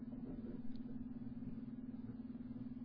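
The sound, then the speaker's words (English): A low rumble of thunder from a thunderstorm rolls on steadily for a few seconds, faint and muffled, with a constant electrical hum underneath and no one speaking. “We've got more thunder. I hear it. More thunderstorms.”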